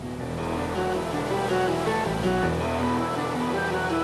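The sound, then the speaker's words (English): Rushing floodwater roars steadily and loudly for the whole stretch, a dense, continuous churning wash with no pauses and no voices. “But the water moves so fast, even cars can be swept away.”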